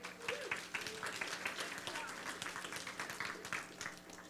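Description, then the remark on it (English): A crowd applauds the volunteers steadily, a dense wash of many hands clapping at a fairly even level for several seconds, with faint voices murmuring underneath. “Can you clap it up for our volunteers?”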